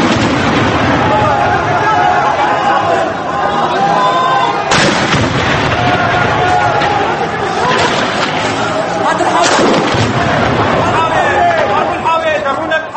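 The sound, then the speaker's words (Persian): Heavy gunfire and booming tank weapons fire crack out in sharp bursts, two especially loud blasts standing out, over a continuous din of agitated crowd voices and shouting, as army forces attack protesters with tanks and weapons in the city of Hama, Syria, at dawn on Sunday. “نیروهای ارتش بامداد روز یک شنبه با تانک و سلاح‌های جنگی به معترضان در شهر حما حمله کردند.”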